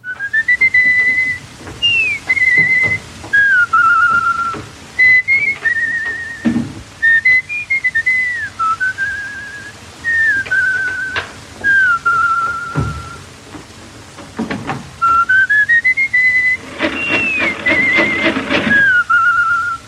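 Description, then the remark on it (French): A clear whistled melody from the Portuguese film Pátio das Cantigas carries a tune in repeated phrases with short pauses, the notes gliding and wavering slightly in pitch, with no talking. “Mais même lorsque quelqu'un ne chante pas de chanson ou ne joue pas de guitare, quelqu'un siffle.”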